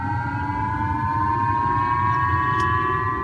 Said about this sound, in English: In Japan, people in the northern region of Hokkaido woke up to sirens and instructions to take cover.